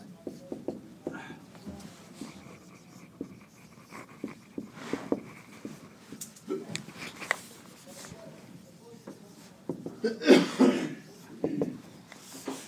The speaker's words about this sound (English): Is that a cough or a sneeze? Two in one, doesn't have time.